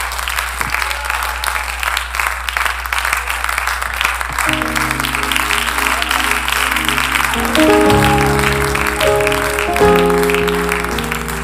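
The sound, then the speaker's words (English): A church audience gives a hand clap of praise to the Lord, clapping steadily and loudly in a dense, continuous wash of hand claps, and after a few seconds sustained organ or keyboard chords rise underneath the applause. “Lord, a hand clap of praise.”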